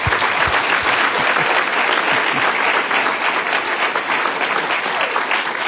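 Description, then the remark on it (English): Sustained applause from a sizable audience for the speakers at a Commonwealth Club Town Hall on the politics of being black in the Bay Area, dense and steady clapping at a fairly loud level for several seconds, with no one speaking over it. “Let's give a big round of applause to all of our speakers.”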